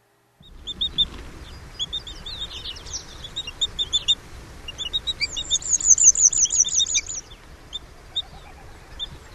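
bird, arctic terns calling

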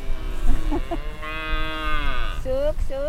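animal, cattle mooing

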